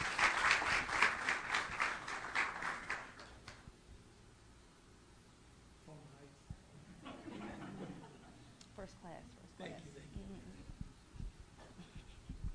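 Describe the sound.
A burst of audience applause for a woman being called up to speak, loud and dense with many hands clapping, lasts about three seconds and then dies away, leaving quieter murmuring and a voice speaking.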